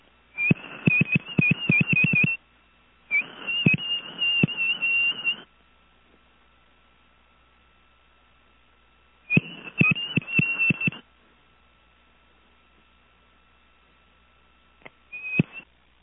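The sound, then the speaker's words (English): A high, steady whistled tone sent down a telephone line by a caller in Ohio using a Western Electric 500DM telephone, in several sustained bursts, each crackly with clicks, followed by a brief final chirp. A faint continuous line hum sits underneath. “I'm going to whistle this thing off fairly well.”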